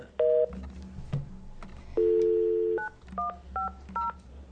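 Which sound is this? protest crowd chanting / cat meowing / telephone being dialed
telephone being dialed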